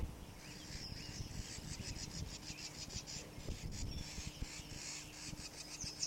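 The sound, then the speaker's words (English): Harsh, rapid scolding calls from a bird repeat in a steady, chattering series of raspy bursts, with a low rumbling hum running underneath and no one speaking. “Scolding a bird, possibly near the nest.”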